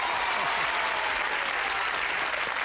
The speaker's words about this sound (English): And all those ladies out there in the audience are cheering you on.